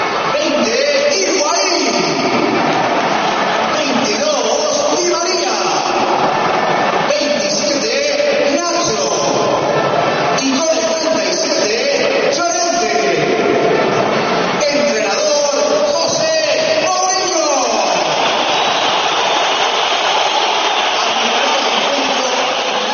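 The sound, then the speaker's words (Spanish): A huge crowd at the Bernabéu roars steadily during the reading of the lineups, three minutes before kick-off, with shrill whistling at Mourinho and applause for Iker surging in waves while an amplified voice announces over the din, the noise swelling loudest toward the end. “Parecen más los pitos a Mourinho incluso que los aplausos a Iker.”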